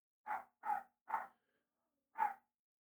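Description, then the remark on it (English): A dog barks four times: three quick barks in a row, a brief pause, then one more. No one speaks. “What is going on with that dog?”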